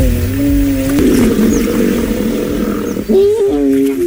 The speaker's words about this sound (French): C'est un herbivore. Il pèse 3 tonnes. Ah, rhinocéros. Ouais, bravo.